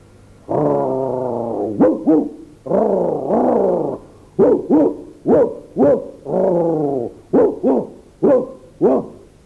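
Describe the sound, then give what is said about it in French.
A dog barks and growls loudly at the foot of a tree, at a cat up in it, mixing long, drawn-out whining yowls with a quick series of short, sharp barks in an uneven rhythm; no one speaks. “Justement irrité d'une semblable effronterie, il resta au pied de l'arbre, aboyant, grondant et faisant mille reproches.”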